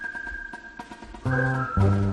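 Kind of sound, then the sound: whistled march tune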